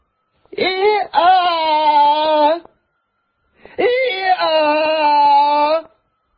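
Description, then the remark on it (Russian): A donkey brays twice, each call a long, loud, harsh wheezing honk with a sudden pitch shift near its start, the two calls separated by a brief pause. “Так кричит ослик.”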